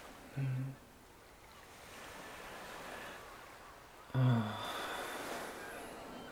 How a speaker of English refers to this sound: Let's go outside, honey. Isn't it beautiful? Listen to the waves.